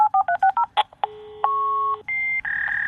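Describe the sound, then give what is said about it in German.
A modem dials a telephone number with a quick run of short DTMF beeps, then shifts into sustained steady high and low tones and handshake squeals signalling zeros and ones, loud with no voices. “Am Anfang waren halt diese Ditut, Ditut, Ditut, Ditut, das ist die Telefonnummer”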